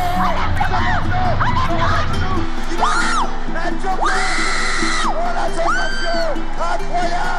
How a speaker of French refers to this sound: Ces cris que vous venez d'entendre, c'est quand on marque un but ou quand on gagne une course dans un stade en folie avec les commentateurs télé ou radio qui n'ont plus de voix, certes.